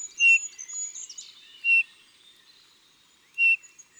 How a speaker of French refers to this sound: En novembre, dans le silence des bois, on entendra encore quelques cris de sittelle, de geais ou de bouvreuil.